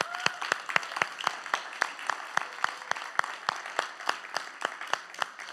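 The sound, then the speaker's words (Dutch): An audience applauds steadily after a talk, at the host's call for applause: sharp, evenly spaced claps stand out above a dense wash of many hands. The clapping keeps an even pace throughout, and nobody speaks. “Applaus!”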